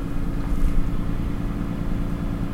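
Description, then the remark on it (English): A tow truck's engine idles steadily outside, a low continuous rumble with no breaks, muffled; the truck has been idling for about five minutes. “Barely hear the tow truck out there. He's been idling out there for about 5 minutes now.”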